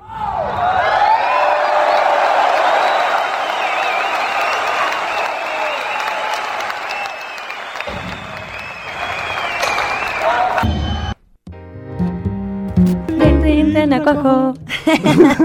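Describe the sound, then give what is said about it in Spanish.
Sustained audience applause with cheers and whoops in honour of the Colombian poet Rafael Pombo and his work, rising quickly and holding loud for about eleven seconds, then cutting off abruptly as music begins. “Entonces, un aplauso para Rafael Pombo.”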